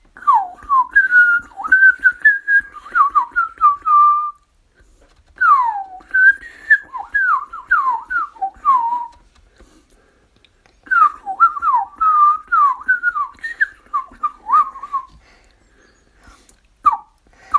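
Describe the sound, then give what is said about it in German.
A blackbird sings mellow, fluting phrases in three bursts separated by short pauses, each a run of rich warbled notes at a mid-high pitch, fairly loud with no talking. “Also, mit der Amsel.”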